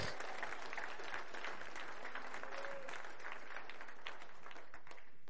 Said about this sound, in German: Amen. Halleluja. Ich darf mal klatschen. Klatsch mal für Jesus. Halleluja. Danke, Jesus.